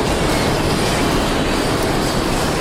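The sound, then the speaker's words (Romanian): Plastic shredder knives at a plastic recycling factory grind in a loud, steady roar of dense noise with a harsh rattling texture, unbroken for the whole stretch and with no voices. “Cuțitele care mărunțesc plasticul fac foarte mult zgomot.”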